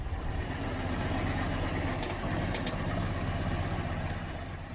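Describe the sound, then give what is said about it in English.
A Ford Model T engine, a car first built in 1908, idles in a modern recording with a loud, steady mechanical rumble, continuous throughout, with a rough chugging texture and no voices. “That loud mechanical rumble is a modern recording of a car that debuted more than 100 years ago.”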